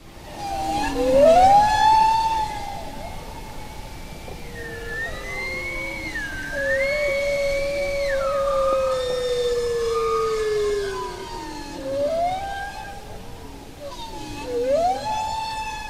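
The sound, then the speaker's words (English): Bowhead whale song recorded by the Norwegian Polar Institute: long, eerie tonal calls that swoop up and glide down, some overlapping with higher harmonic cries, filling the stretch continuously at steady, moderate loudness with no voices. “So here's a recording of bowhead whales made by the Norwegian Polar Institute, made available by the Washington Post.”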